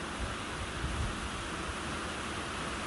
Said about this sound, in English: Just over to my left, I can just make out a waterfall through the trees, which is cascading the water into this channel between two rock cliff faces and disappearing down through the trees towards the River Nid in the valley below.